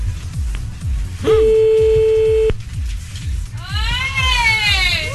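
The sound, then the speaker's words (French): A telephone ringing tone from a called phone number sounds once as a steady electronic beep lasting about a second, over continuous low rhythmic thumping. A high wailing, cry-like sound follows near the end. “Le numéro de téléphone sonne. Chut, attention, on devrait entendre sonner.”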